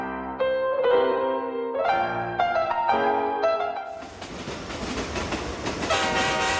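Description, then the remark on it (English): A train with a bar car running on rails: a series of loud, harmonic whistle blasts, then a dense, steady rumble and rattle of the cars rolling along the track. No one speaks. “In the bar car of the train, Lord Shipley is sharing a whiskey and conversation with Lady Lydia's son, the Honorable Bart Benson.”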